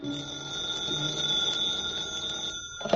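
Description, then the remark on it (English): A telephone's bell rings in a room in one long, steady metallic trill, fairly loud, for a few seconds before it abruptly stops. No one speaks. “When I got back to the room, the phone was ringing.”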